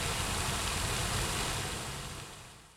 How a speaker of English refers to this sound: For me, like, hearing water rushing is kind of a soothing thing, and it's just really beautiful.